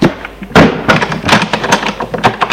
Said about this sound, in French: Il entre. Elle ferme la porte.